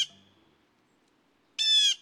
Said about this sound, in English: If we had to pick one bird's voice to symbolize our eastern woodlands, the blue jay's voice would likely be it. Its familiar calls ring year-round through deciduous forests east of the Rockies.